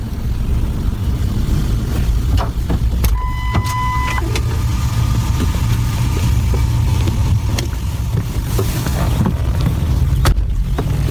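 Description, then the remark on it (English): A car engine idles with a steady, loud low rumble throughout, with a few faint clicks and a brief high tone partway through. No one speaks. “This is where she gets in the car.”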